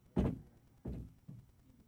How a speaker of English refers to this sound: See who's coming through the door?